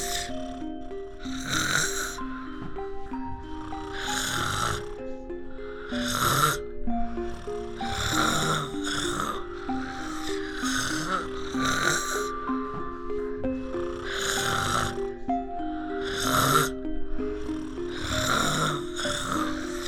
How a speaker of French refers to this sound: Il se couche à côté d'elle. Il me met la couverture. Il s'endort en ronflant.